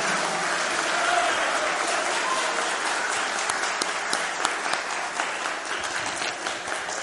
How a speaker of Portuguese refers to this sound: Peço uma salva de palmas de todos vocês aos professores.